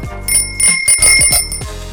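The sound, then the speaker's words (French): A bicycle bell rings repeatedly in quick bright dings in a bicycle reassembly workshop hangar in Saint-Fons holding about a hundred identical green bicycles, a high metallic tone sustaining between strikes, with a low mechanical rumble and clatter underneath. “Et la petite bruit de klaxonnette.”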